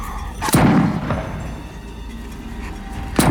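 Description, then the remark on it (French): Two rifle shots fired at a large animal by a river ring out, the first a sharp crack followed by a deep rumbling tail, the second arriving about three seconds later with no voices in between. “Pas de panique. Mon fusil est chargé.”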